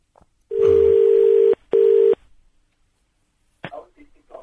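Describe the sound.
A telephone line tone after the caller hangs up: a loud, steady mid-pitched electronic hum in two bursts, a long one then a shorter one, followed by a brief spoken voice.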